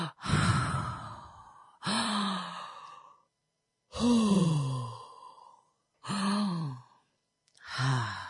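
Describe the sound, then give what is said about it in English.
Five slow, deep belly breaths from the stomach, each a loud, airy exhale lasting over a second, separated by short pauses, with no talking. “All right, breathing from your stomach and grounding exercises.”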